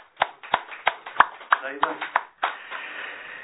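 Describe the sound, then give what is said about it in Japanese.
A group claps in unison in congratulation for a teacher's birthday and the 165th year since the religion's founding, about nine sharp, evenly spaced claps at a brisk steady rhythm, then the clapping stops and a voice begins speaking. “立教165年を迎えさせていただいて、おめでとうございますと思いで拍手をさせていただきたいと思います。”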